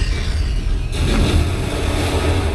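Depth charge explosions from a film soundtrack, played on a home theater sound system during a scene of a seemingly endless depth charge attack: a deep, steady low rumble, then a sudden loud blast about a third of the way in that swells into a sustained, churning roar.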